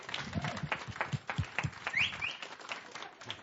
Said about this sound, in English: Let's give a nice round of applause.